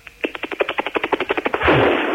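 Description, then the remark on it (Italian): A voice imitates a kitchen gas stove lighting: a quick, even run of about sixteen sharp clicks, then a loud, steady breathy whoosh as the flame catches. “No, solo allora le faccio prima la cucina che sta accendendo.”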